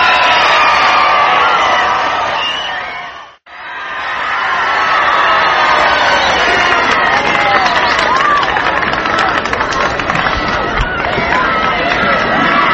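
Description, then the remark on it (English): A large crowd in Fort Worth applauds and cheers for President Kennedy as he makes his way across 8th Street, a steady, dense roar of clapping and shouting voices that briefly cuts out near the start, then swells back and continues loudly throughout. “You hear the crowd applauding.”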